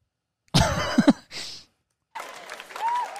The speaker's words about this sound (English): Dude, an applause break, you know?